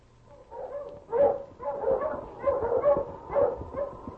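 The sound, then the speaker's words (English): A dog barks over and over, a run of five or six sharp, tonal barks at an uneven quick pace, moderately loud, with no voices. “Well, with a strong dog like him, it won't matter if we have to take a longer route.”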